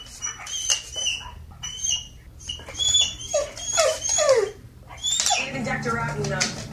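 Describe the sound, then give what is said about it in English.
A young black labrador whimpers in a string of high, wavering whines and squeaky yelps after the TV it was watching is paused, rising and falling over a low background hum with some indistinct noise toward the end. “But when the owner pauses the TiVo or the DVR, dog starts whimpering and going crazy because it stopped moving.”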